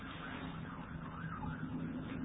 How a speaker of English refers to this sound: But through all of that, the sirens, all the noise that goes on in the city and wherever you are,